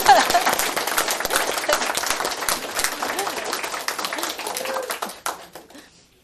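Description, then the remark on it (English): An audience breaks into steady applause, many hands clapping in a dense, rapid patter that holds for about five seconds before tapering off into a few scattered claps and quiet. “I feel like they should get a round of applause for me.”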